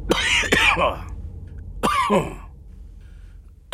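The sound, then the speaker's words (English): A man's harsh, racking cough, with a hand over his mouth: a rough double burst, then a pause and another heavy hack, with a brief catch at the very end. No one speaks. “He coughed rackingly, putting a hand over his mouth.”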